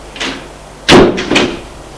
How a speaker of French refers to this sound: Il entre. Elle ferme la porte.